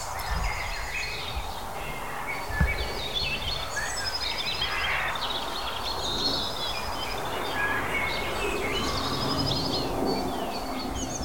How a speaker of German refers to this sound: Und während die ganze Zeit aber um mich rum Vögel hier in die Büsche reinschießen.